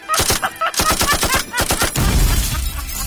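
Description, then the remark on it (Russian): A loud, rapid burst of gunshot effects, a dozen or more sharp cracks in quick succession like automatic fire, giving way to a dense, rumbling roar. “Второй выстрелил. Попал в милицию. Третий выстрелил.”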